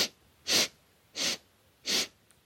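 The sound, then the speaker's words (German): Four short, sharp sniffing inhalations through the nose, done as a breathing exercise, come in an even rhythm about half a second apart, fairly loud, with quiet pauses between them and no talking. “Viermal ein.”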